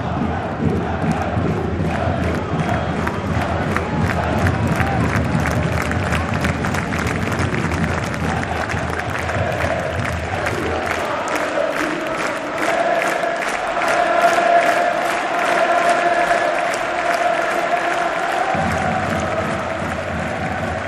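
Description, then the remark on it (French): A huge crowd of about 10,000 people rising to their feet at once roars and applauds nonstop, a dense wall of cheering and rapid clapping that stays loud throughout, with shouts rising above the steady ovation. “10 000 personnes qui se lèvent d'un coup, qui hurlent, mais ça, c'est...”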